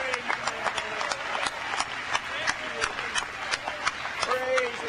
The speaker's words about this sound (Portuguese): Vamos dar uma salva de palmas bem grande.